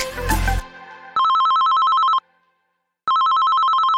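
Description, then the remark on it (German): A telephone rings with a call from a gynecologist, two long electronic bursts with a pause between, a steady, bright, buzzing tone, preceded by a short noisy rustle. “Ein Anruf von der Gynäkologin und plötzlich ist alles anders.”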